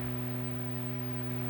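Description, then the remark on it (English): A refrigerator's steady, low electrical hum drones on without change, with a faint hiss of background noise. It is quiet and continuous, with no voices. “That's the icebox.”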